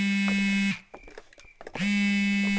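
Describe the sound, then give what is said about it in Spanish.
A mobile phone buzzes for an incoming voice message, loudly in two long, steady pulses with a short gap between them, a harsh low-pitched vibrating drone with a few faint clicks in the pause. “Es mi teléfono. Es un mensaje de voz de Tati.”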